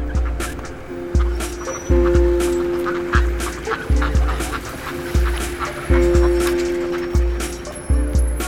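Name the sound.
ducks quacking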